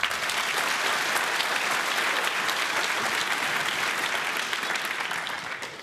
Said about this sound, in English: Huge round of applause